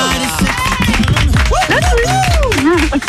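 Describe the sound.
A crowd applauds loudly for about three seconds, the dense clapping mixed with overlapping cheers and rising, whooping voices.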